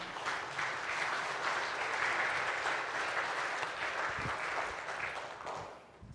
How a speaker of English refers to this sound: Now you can applaud.